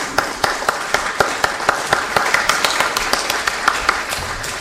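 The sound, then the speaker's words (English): A church audience applauds steadily for their leader and children as they keep coming in, dense overlapping claps with a few sharper individual claps popping out in an irregular rhythm, moderately loud and unbroken. “Now keep applause going, they keep on coming.”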